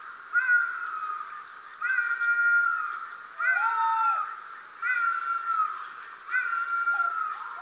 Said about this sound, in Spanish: Y su voz fúnebre da pie al sonido más agreste del monte, el ladrido del zorro.